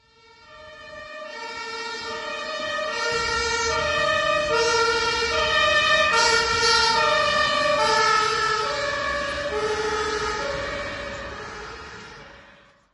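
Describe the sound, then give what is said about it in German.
A German two-tone emergency siren (Martinshorn), as used by police, fire engines and ambulances and about 110 to 120 decibels, alternates steadily between a high and a low note as the vehicle approaches, grows loud while passing, then fades away, with road rumble underneath. “Das Martinshorn, also die Sirenen bei der Polizei, Feuerwehr und Krankenwagen, hat 110 bis 120 Dezibel.”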